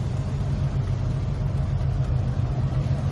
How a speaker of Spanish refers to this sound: Es el sonido de un barco. 4.200 kilos de hachís venían en tres lanchas iban a introducir la droga a la provincia de Alicante.